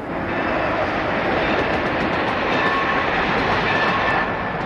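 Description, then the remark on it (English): A train rolls steadily along the rails, a loud, continuous rumble and rattle that stays even throughout, with no voices over it. “The impact of his first words as the Bishop of Rome and his close work throughout the years then among the parishes and communities based in the Eternal City will now be specifically remembered every time the people here catch a train.”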